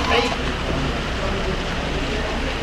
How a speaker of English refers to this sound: Sound of the rain on the roof. And we're in Memphis, Tennessee.